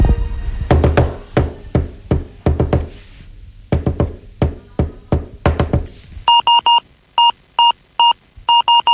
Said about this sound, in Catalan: A veure, una demostració, per exemple, demanar ajuda, l'SOS.